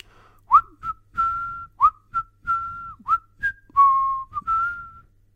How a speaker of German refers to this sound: sagt er und verabschiedet sich lustig pfeifend.